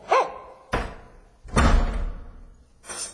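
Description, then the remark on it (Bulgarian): A door slams shut in someone's face with a loud wooden bang, among several sharp impacts and rattles spread over a few seconds, with no talking. “И хлопна вратата под носа ми.”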